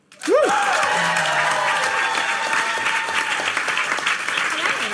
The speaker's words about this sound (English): And why don't, let's do that again and give a warm Torontonian round of applause, regardless if you're not from Toronto or not, to our guest tonight,